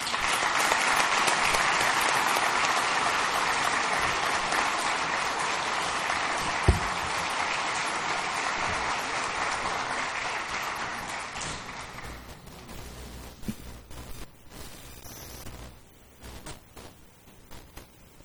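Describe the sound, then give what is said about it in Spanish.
A crowd at an event with doctors and officials of the Mexican Social Security Institute applauds steadily in a dense wash of clapping, which thins out after about twelve seconds into scattered individual claps before fading away. “Muchas gracias a todos y un aplauso.”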